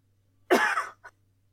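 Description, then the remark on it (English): A single harsh cough bursts out, followed by a brief softer throat sound, with quiet background hum before and after and no talking. “Now I'm going to cough.”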